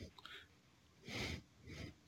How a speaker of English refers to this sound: That was an elephant sneezing. If you heard that, please forgive him.